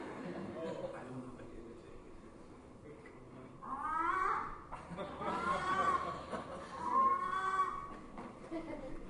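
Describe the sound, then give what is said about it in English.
A person imitates a frog screaming in pain, letting out three strained, high, wavering wails, each a second or so long, over a low background murmur. “How do frogs scream in pain?”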